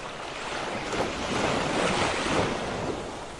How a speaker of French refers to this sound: Et maintenant, vois de quelle manière tu te laisses porter par les vagues de l'océan.